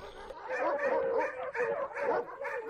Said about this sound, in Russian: Поднялся вдруг весь псарный двор. Почуя серого так близко забияку, псы залились в хлевах и рвутся вон на драку.